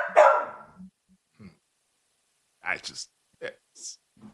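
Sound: dog barking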